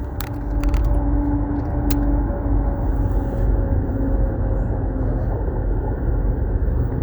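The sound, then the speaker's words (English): Steady, loud low rumble of road traffic with a droning engine hum from a truck running alongside in the next lane, keeping the driver from changing lanes, continuous throughout with a few brief clicks near the start. “I got this truck trying to hold me, keep me from getting over in the other lane.”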